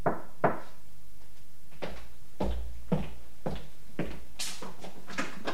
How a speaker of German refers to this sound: Ich stellte den Kombi in der Nähe meines Zieles ab, in einer Seitenstraße, ging um den Block, stieg die Hintertreppe hinauf und klopfte. Wie verabredet, dreimal.